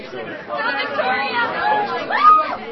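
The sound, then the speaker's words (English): Dense overlapping chatter from a crowd of 6th to 8th grade middle school students gathered in the middle school commons for a spelling bee, a steady babble of many kids talking at once with no single voice standing out, rising slightly in loudness toward the end. “The competition took place in the middle school commons, where throngs of middle schoolers gathered to cheer for their friends.”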